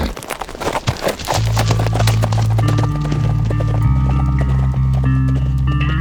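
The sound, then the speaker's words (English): Horse hooves clip-clop in a quick, uneven rhythm for a moment before loud sustained music swells in and largely buries them; Brad's horse wandering loose near the mouth of a ravine. “Near the mouth of the ravine, I found Brad's horse wandering loose.”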